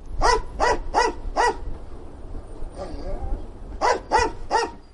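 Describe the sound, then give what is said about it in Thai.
Asha, a female English Springer Spaniel sniffer dog at Jomo Kenyatta International Airport in Kenya, barks sharply, four quick barks in a row, a short pause with a faint whine, then three more rapid barks. “อาชาคือสุนัขเพศเมียพันธุ์ English Springer Spaniel ที่ประจำอยู่ที่สนามบินนานาชาติโจโมเคนยัตตาในเคนยานะครับ”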